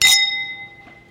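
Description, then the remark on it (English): A single bright clink of glasses touching in a toast, followed by a clear ringing tone that slowly fades over about a second. It sounds fairly loud, with no voices. “Cheers.”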